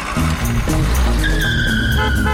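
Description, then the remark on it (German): An old car's engine roars loudly as tires squeal in a sustained, rising screech, like the vehicle skidding around a turn, with no one speaking. “So sind wir früher Auto gefahren.”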